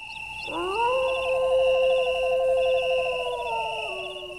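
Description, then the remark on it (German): A single long wolf howl at night rises in pitch, then holds a wavering, sustained tone for several seconds before fading, with a steady high insect-like chirping in the background. “Das ist ein Wolf.”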